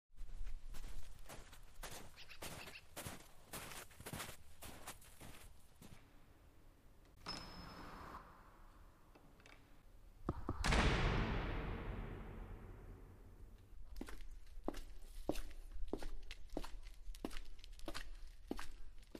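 Steady footsteps of two people trudge to church through freshly fallen snow on the eve of Christmas Eve, with no biting wind and grey clouds overhead, in an even, unhurried rhythm, fading out midway, then returning after a loud sweeping whoosh. No one speaks.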